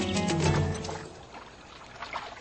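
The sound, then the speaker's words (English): A brief burst of splashing water as cheetahs grudgingly enter the water in search of prey, followed by softer trickling and sloshing as the movement through the water settles, with no voices. “Elephants seem to enjoy themselves, wallowing in the muck, while cheetahs grudgingly enter the water in search of prey.”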